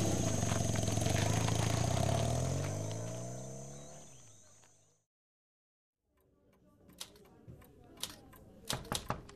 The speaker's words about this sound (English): give me a moment as I finish typing today's report.